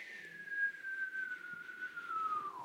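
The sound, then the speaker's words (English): A person whistles one long, steady tone that glides slowly downward for nearly three seconds, then drops off at the end, imitating the falling sweep of a double whistler radio signal. “But they were even more fascinated by the fact that not only were we clear as a bell and they could hear every bloody thing, but they could also hear double whistlers that went.”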